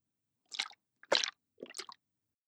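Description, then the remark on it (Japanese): Three thick, gooey globs of liquid drip one after another onto fingertips for an ear treatment, each a soft, wet, squelching plop, spaced about half a second apart with no talking. “トプトプトプって、すごくトロトロした音がするでしょ？”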